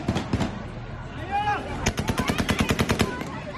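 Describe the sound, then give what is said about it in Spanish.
Rapid bursts of gunfire, fired into the air inside Kabul airport in Afghanistan as the army tries to disperse thousands of people, crack out in quick succession, with a dense run of sharp shots in the second half, over a noisy crowd with voices shouting in the background. “Son los tiros lanzados al aire dentro de ese aeropuerto que intentaban el ejército con él dispersar a miles de personas.”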